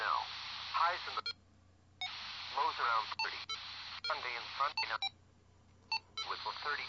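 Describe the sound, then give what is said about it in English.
Short electronic beeps from a radio receiver's function 3 (a low beep means both receivers are active, a high beep means they are off) sound in small clusters between stretches of hissy, narrowband radio audio with voice-like chatter, the tones crisp while the noisy transmissions start and stop abruptly. “Yeah, the low beep, function 3, means that both receivers are active. The high beep means they're turned off.”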